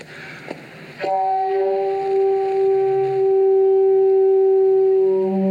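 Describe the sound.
After a couple of sharp clicks, a bellows-driven device sounds a steady, reedy mid-pitched tone that drones on without a break, imitating a stork's call. A toilet-chain-like pull raises a small bellows over a little pulley, and the tone sounds as the bellows sinks back. The device is called Homesickness of a Stork. No one speaks.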